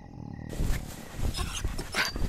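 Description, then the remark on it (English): A dog pants and whimpers, with rapid breathy huffs and soft whining noises running continuously for a couple of seconds. No one speaks. “Hey, that's my pillow, effing dog.”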